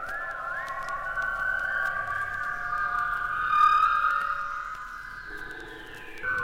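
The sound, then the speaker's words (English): An eerie, wavering whistle holds a steady high tone, sliding slowly up and down in pitch for several seconds, with faint clicks and a low hum underneath and no voices. “They made strange whistling noises outside windows as kids were going to sleep.”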